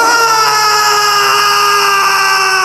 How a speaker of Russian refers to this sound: Раздался пронзительный крик, и кинжал, блеснув, упал на траурный ковер, на котором спустя мгновение распростерлось мертвое тело принца.